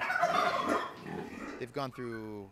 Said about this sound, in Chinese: 我们所有的动物都是抢救来的，总共有170只，它们被虐待、被忽视或即将被屠杀，特别是火鸡。 许多动物是从非法屠宰业者，也就是所谓的后院屠夫的刀下抢救来的。谷仓有9只火鸡。